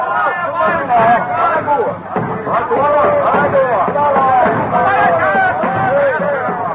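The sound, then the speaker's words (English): A large crowd of excited tribesmen in a native village in Africa shouts and calls out together, hailing Henry Stanley and his company as they march in, a dense, continuous wall of overlapping voices with rising whoops and cries, loud throughout with a brief dip midway. “A few weeks later, in Africa, Henry Stanley and his company march into a native village and are hailed by excited tribesmen.”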